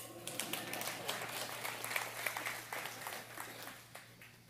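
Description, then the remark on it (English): An audience claps steadily for a few seconds after a chapter is recited, a dense crackle of many hands at moderate volume that thins slightly toward the end, with a low electrical hum underneath and no talking. “You should clap.”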